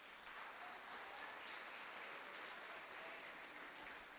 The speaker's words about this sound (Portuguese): Aplauda o Senhor.